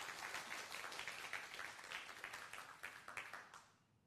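A church audience claps together after 'amen' to give glory to God during worship. It is a dense, steady burst of applause lasting a few seconds, with many hands overlapping into a bright crackling wash before it quickly tapers off.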